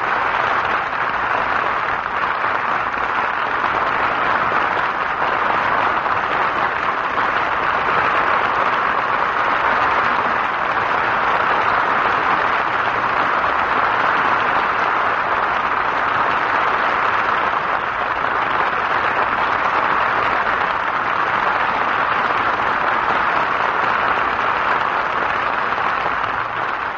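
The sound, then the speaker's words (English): A large studio audience stands and applauds as the pianist leaves the stage after a radio piano recital, in a dense, unbroken wash of clapping that holds at a steady, fairly loud level for nearly half a minute, with no voices standing out. “Audience is again standing and applauding as the gracious chord of the piano again leaves the stage.”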